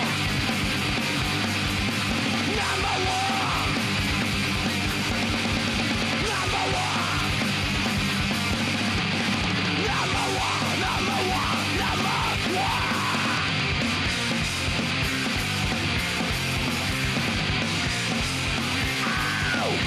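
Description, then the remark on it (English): A large crowd screams and yells nonstop for about twenty seconds, a loud, dense roar of many overlapping voices with whoops rising above the din. “Let me hear you scream!”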